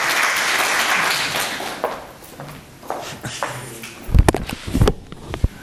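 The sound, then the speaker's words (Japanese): Audience applause, a dense patter of many hands clapping that is loud at first and gradually thins out, followed by a few scattered sharp knocks and thumps. “皆さん拍手が足りないから会場に上がってください。”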